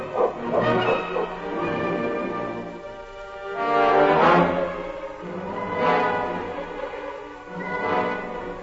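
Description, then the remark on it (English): A team of sled dogs barks and yelps together in a noisy, overlapping chorus, swelling in several loud bursts over a few seconds, with no talking, as a blizzard approaches. “Go to the front of the team, King. Get the dogs up.”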